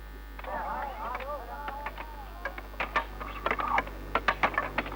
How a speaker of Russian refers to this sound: Звуки, которые вы слышите, это шум работы самого большого в мире завода боеприпасов, который занимает площадь 17 тысяч километров и на котором, по-моему, работает не меньше 600 миллионов человек.